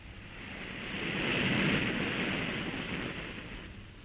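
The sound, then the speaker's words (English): A steady wash of ocean waves rolls and hisses, swelling gently in the middle, with a low rumble beneath, heard from aboard a steamer near the Isle of Skara, a granite island. No voices. “A lonely, tilted granite paving stone jutting out of the ocean. Even from the steamer, we could see the radio telescope straddling the highest end like some enormous black crab”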